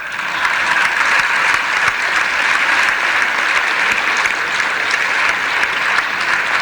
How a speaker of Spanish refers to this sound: Pueden aplaudir eso también.